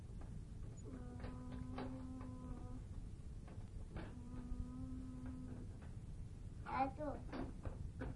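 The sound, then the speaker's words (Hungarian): A steady, buzzing toy whir sounds twice, then a brief cluster of wooden knocks and scrapes as a small toy car is shoved into a wooden drawer, over a quiet background. “Ó, betolta oda a fiókba.”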